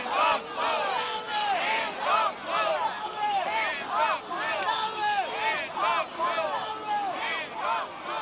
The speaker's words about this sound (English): Several hundred demonstrators gathered Thursday in New York's Times Square, chanting slogans including "Hands off Mueller" and "Nobody's above the law."